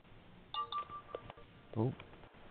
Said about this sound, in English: Oh. Okay. So the phone was beeping in the background then as well.